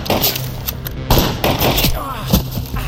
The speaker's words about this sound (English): Shots fired, Bell's reservation. I need more units.